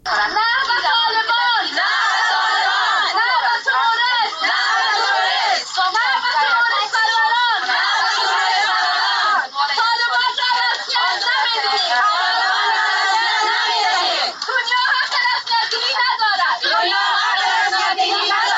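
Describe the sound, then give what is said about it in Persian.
A loud crowd of Afghan women in Islamabad, Pakistan, chanting protest slogans against one year of Taliban rule and the violation of women's and girls' rights, many high voices shouting together in continuous overlapping waves with rhythmic rises and surges of yelling throughout. “صدای اعتراض زنان افغان است که در اسلام آباد پایتخت پاکستان بلند کردند.”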